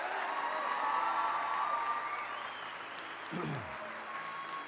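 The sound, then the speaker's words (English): A large standing crowd claps and cheers for the Lord Jesus in a sustained, dense wash of applause, with a few voices rising above it. “Come on, give Him a big hand clap.”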